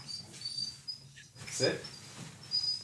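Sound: dog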